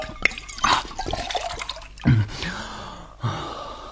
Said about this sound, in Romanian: Ia, mai bea o cofă cu apă.